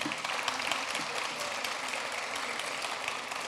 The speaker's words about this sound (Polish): Witam serdecznie najsympatyczniejszą publiczność zebraną na amfiteatrze należącym do Miejskiego Ośrodka Kultury. Brawa dla Państwa.